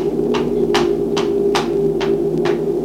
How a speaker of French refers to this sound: Monsieur de Jean-Jus va frapper à la porte de bois de la ferme.